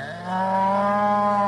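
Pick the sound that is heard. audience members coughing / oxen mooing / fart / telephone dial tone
oxen mooing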